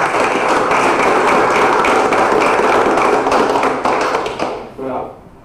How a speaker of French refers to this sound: Donc félicitations, on l'applaudit.